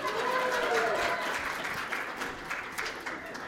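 An audience applauds Pastor Jeff with steady, dense clapping that holds at a fairly even level for several seconds. A brief vocal cheer rises over it near the start.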